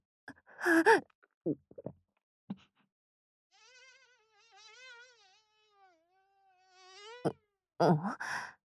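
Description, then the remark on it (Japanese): A bee, called a killer wasp, buzzes steadily for a few seconds, its pitch wavering slightly as if hovering, framed by sharp, breathy gasps before and after. “こいつ戻ってきたのか。やばい、今度こそ食われる。生きたまま蜂に食われるのか。”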